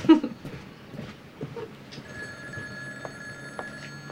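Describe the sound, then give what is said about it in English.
A telephone rings steadily with a sustained electronic tone over a low, busy background of rumbling noise. “wanders off to answer the phone”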